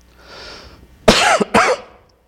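Two harsh coughs in quick succession from a preacher with a cold, the first longer and the second shorter, following a soft breathy exhale, during a prayer before a sermon, with no talking.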